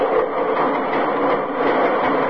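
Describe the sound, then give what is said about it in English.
Flat cars of a loaded 120-car freight train, not a diesel, rolling past, a steady, dense rumble and clatter that holds an even loudness throughout, with no voices over it. “There's the flat cars, you know?”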